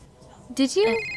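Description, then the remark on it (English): A phone starts ringing with an incoming call abruptly after a quiet moment, a bright electronic ringtone that cuts in loud and holds for a short burst. “Leave your phone somewhere? No. It's right here. It says it's from you.”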